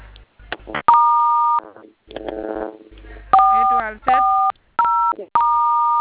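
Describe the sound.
A series of about five steady phone keypad tones as a code (star 440, star 7) is dialed, some held long and some short, with a person talking briefly between them.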